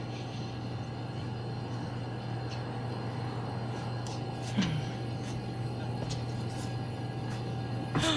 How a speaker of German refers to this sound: Was ist denn das? Der sieht ja bunt aus. Und der Motor klingt gar nicht gut.